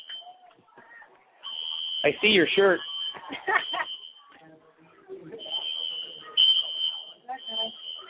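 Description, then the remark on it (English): A fire alarm blares a steady, piercing high-pitched tone almost without pause during a football game, fairly loud and constant and not shutting off, while people talk and shout over it. “This alarm does not shut off.”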